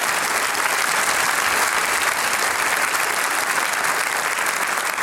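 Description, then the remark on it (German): An audience claps steadily for several seconds, a dense, even wash of hand claps at a constant loudness with no voices breaking through. “Ganz kurz noch, aber da darf man zwischen, glaube ich, mal einen großen Applaus geben.”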